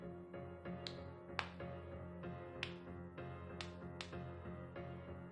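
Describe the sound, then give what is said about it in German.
Strange sharp clicks, about eight or nine, come in an irregular pattern over a low, steady hum. The clicks are fairly faint and quick, with uneven gaps between them, and nobody speaks. “als ich durch merkwürdige Klickgeräusche wach geworden bin”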